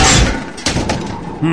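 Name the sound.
door opening and shutting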